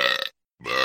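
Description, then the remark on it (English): Two loud burps separated by a brief moment of silence, each one harsh and rumbling with a raspy, throaty texture. “Burps?”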